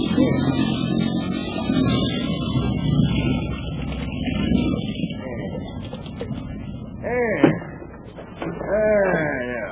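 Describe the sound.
A motorboat engine drones with a steady low rumble as the boat swings around at a little inlet, then the engine is cut and its note eases off as voices call out over the fading motor near the end.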